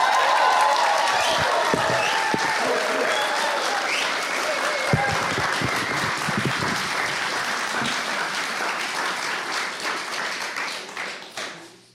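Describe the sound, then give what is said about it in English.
Loud, sustained applause from an audience welcoming a young speaker, a dense wash of many hands clapping at once with some scattered cheering, holding steady before tapering off at the very end. “Well, last but by no means least, and I want the loudest of all applause, because she's young and she needs encouraging.”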